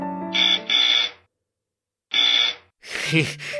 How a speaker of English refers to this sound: The lieutenant rang the bell.